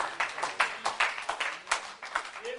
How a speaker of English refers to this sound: Oh, I would like to applaud you for coming tonight. Give the Lord a hand in praise. Just for coming tonight.